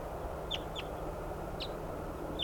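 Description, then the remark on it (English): Decoy birds calling: four brief, high-pitched chirping calls at uneven intervals, fairly faint, over a steady low background rumble with no talking. “These are the decoys calling.”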